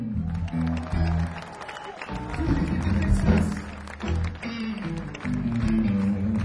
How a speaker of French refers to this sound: Et si vous avez bien vu, il faut aussi applaudir aux éclairages